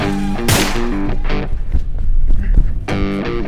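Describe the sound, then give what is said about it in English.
Two sharp, loud gunshot bursts crack out about two and a half seconds apart, over a steady bed of humming, harmonic tones and muffled rumbling. “I got one good shot on him.”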